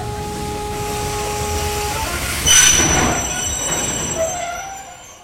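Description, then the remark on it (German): A train rolls steadily along the rails with a constant rumble, while its wheels give off sustained, high-pitched metallic squeals that shift in pitch. No voices are heard. “Die Abreise, der Anblick der Eisenbahn, die langen Wagenfahrten vorher haben keine Spuren in meinem Gedächtnis hinterlassen.”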